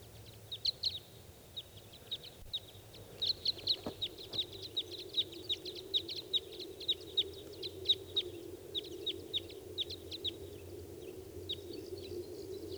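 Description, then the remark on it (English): At least a pair of wild birds call in a quick, irregular series of short, sharp, high chips for about ten seconds, fading out near the end, over a steady low rumble. “I hear the calls of more wild birds.”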